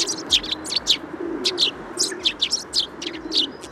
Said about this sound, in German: Der Feldsperling, so klingt der.